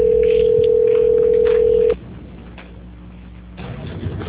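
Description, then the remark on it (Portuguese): A steady, loud single-pitched telephone line tone holds for about two seconds while a call is transferred to quality control, then cuts off, leaving a quiet hissing line with faint low rumble, which swells slightly near the end. “A ligação ficará mudada por alguns instantes.”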